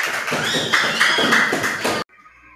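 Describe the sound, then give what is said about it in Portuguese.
A burst of loud, dense applause after a story is told by fifth-grade students: many quick overlapping claps for about two seconds, ending in an abrupt cut to a faint tonal hum. “Muito bem, aplausos!”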